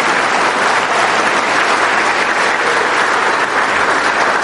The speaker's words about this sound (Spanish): A ver, el aplauso para las mujeres.